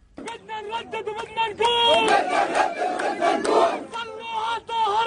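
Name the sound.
crowd chanting slogans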